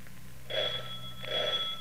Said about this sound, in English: Well, as Ma walks toward the lumberyard, back at the house, Joseph is just answering the doorbell.